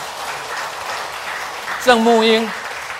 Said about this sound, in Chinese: 到前面来，请到前面来，我们拍手哈，来。